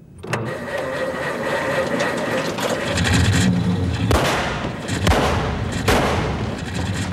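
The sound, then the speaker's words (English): An old car engine, started with choke out, clutch in, a little gas, the key and the starter, cranks and sputters into a rough, rumbling idle in a cargo bay, then lets out three loud, sharp backfire bangs in quick succession. “The crew takes cover as the car backfires and Tuvok quickly raises his phaser.”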